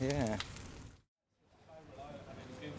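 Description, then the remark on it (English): Light rain falling as a steady, soft hiss in Hebden Bridge, outside the White Swan pub, at about 14.4 degrees. A voice is heard briefly at the start, a short gap of silence follows, then the rain returns with faint talk underneath. “Right, we've arrived in Hebden Bridge and it is raining a bit, which is a pity.”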